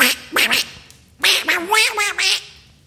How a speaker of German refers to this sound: und spricht, doch nicht nach Landesart, wie Enten schnattern schnell und breit, kommt's aus dem algengrünen Bad.